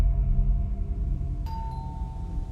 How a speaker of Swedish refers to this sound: Ljudet från ringklockan ekar in i lägenheten och de två medarbetarna hör steg som närmar sig.